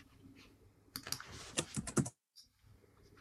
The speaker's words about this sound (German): Wer hat hier das Mikro an? Den höre ich tippen.